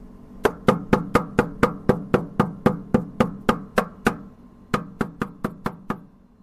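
A young man holding a hammer in his right hand strikes a nail while making armchairs and sofas in the town of Zander, in a quick, steady rhythm of sharp metallic taps, about sixteen blows, then a short pause before five more. The blows are fairly loud and there is no talking.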